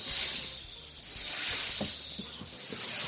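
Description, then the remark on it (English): A person makes a long, breathy snake-like hiss, sustained for about three seconds with slight swells and small clicks underneath, no words spoken. “Well, I'd pull out my snake balloon because people are afraid of snakes. I'd go...”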